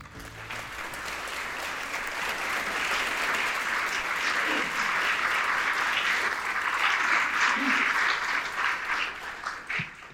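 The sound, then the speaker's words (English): An audience at an evening talk in a library applauds the host steadily for about ten seconds, a dense, even wash of many hands clapping that holds loud throughout before starting to thin out at the very end. “The journalist in me hates to have applause for me. I always think I've done something wrong if somebody's cheering for me.”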